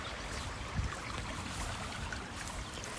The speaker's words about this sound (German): Und genau dieses Wasser war einfach früher die Energiequelle für 42 Mühlen hier in Oberursel. Jetzt hört ihr es bestimmt auch schon plätschern. Ich gehe mal ganz nah ans Wasser ran.